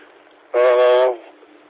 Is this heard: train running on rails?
yes